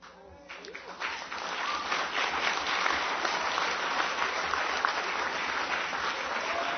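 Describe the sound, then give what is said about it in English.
Sustained audience applause after the announcement of a vote result, 93% no, on keeping the first-past-the-post electoral system: a dense wash of many hands clapping that swells in the first second and then holds steady and loud, with faint voices mixed into the crowd noise. “Now that applause, of course, is the applause for the process.”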